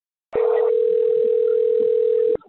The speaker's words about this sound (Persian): نوع موج مستطیلی شکلی که اینجا می‌بینید صدای یک بوغه.